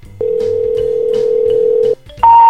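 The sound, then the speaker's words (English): A steady, loud telephone dial tone hums for nearly two seconds, then cuts off and gives way to short, bright touch-tone dialing beeps as someone dials a home phone number to make a call. No one speaks. “I actually got Hunter S. Thompson's current home phone number and we're going to give him a call now”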